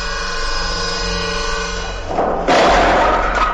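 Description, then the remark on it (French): A low droning music bed gives way to a heavy thud and a loud, sustained splintering crash as a hatchet strikes through a bolted wooden door in a dungeon, forceful. “Mais bon, j'ai ma hachette et cette porte est en bois.”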